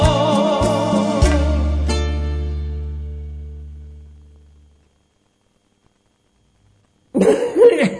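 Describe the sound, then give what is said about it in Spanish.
A sustained musical chord rings out and fades to silence, then a loud, rough burst of heavy coughing erupts near the end, from a man recording a WhatsApp message in winter from paraje El Zorro Negro, Buenos Aires province. “Bueno, voy a ver si me sale este WhatsApp, chico, con una tos bárbara.”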